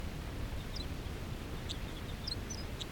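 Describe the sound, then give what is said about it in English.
A wild male bird, come down to the snow about 11 feet away, gives a song phrase: several short, high, thin chirps scattered across a few seconds, faint against a steady low rumbling background noise. “Song by the male. A lot of the other wild birds are calling.”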